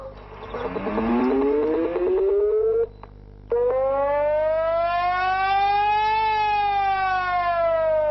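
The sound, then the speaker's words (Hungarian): A civil defense warning siren in Borsod-Abaúj-Zemplén county, Hungary, sounds a reduced-mode test signal, its wailing tone rising steadily, cutting out briefly, then climbing again and holding high before starting to fall. Loud and sustained, with no talking. “Most a csökkentett üzemű próbajelét hallják.”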